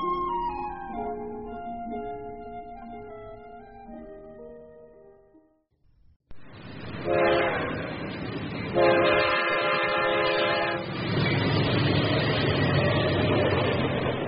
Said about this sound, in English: But the train isn't stopping.